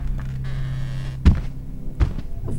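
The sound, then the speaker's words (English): A door swings shut with a dull thud, followed by a second softer knock, over a steady low hum with no one speaking. “Why are you closing the door?”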